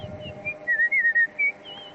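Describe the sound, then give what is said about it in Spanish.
Someone whistles a short melodic phrase in a high, clear tone, with quick trills and wavering ornaments between several sustained notes, standing out over a low background murmur. “Con trinos y todo, ¿eh?”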